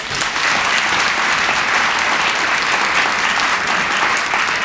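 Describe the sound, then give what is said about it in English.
Sustained applause from an audience, a dense, even wash of many hands clapping at once that holds steady and loud for several seconds with no voices standing out. “how many in the audience clap if you watched some or most of the hearings or listened to it?”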